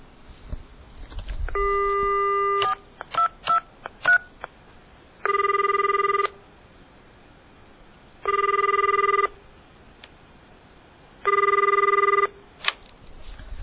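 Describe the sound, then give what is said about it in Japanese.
A telephone dial tone, then a quick run of keypad beeps as a number is dialed, followed by three evenly spaced ringing tones on the line, thin and phone-like, with no voices; a fraud victim calls the phone number printed on a fake civil-lawsuit final-notice postcard sent to their home. “被害者は民事訴訟管理事務局なるところから自宅に送られた民事訴訟最終通告書などと印刷されたハガキを見て不安を募らせ、それに記載された電話番号に電話をかけました。”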